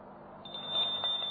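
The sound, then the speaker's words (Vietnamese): A bell rings with a single high, steady tone that begins partway in and holds to the end, fairly quiet over a soft background hum. “Tiếng chuông này, nó là nó, chứ nó đâu có làm gì đau khổ.”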